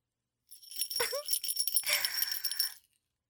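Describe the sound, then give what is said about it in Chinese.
A small bell being shaken, producing a bright, continuous metallic jingle for about two seconds, with a brief dip midway before a second burst of rapid tinkling. No voices. “铃铛声停下来了，你也要停下来，求主人再摇动铃铛，大点声，主人听不见。”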